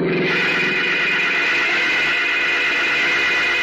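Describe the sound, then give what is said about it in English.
A small sedan speeding up from behind roars past: a loud, harsh, steady rush of engine and road noise with a high, whining edge, swelling in at the start and holding for several seconds, no voices. “Shouting an alarm, the bus driver sits transfixed as he sees a small sedan traveling at high speed roar up from behind and bear down directly on Howard Jones.”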